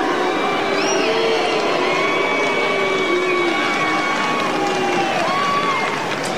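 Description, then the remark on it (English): A large stadium crowd at the Australian Open final boos loudly and continuously, many voices blending into a sustained, droning jeer with rising and falling tones over a dense roar of noise. “What about the booing Australian final open crowd?”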